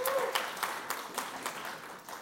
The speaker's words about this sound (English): You can clap in here. Come on.